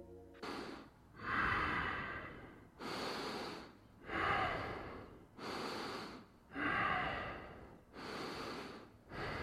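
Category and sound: human body sound, person breathing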